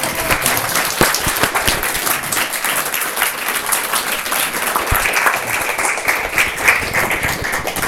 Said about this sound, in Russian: Во-первых, благодарим докладчика, аплодисментами.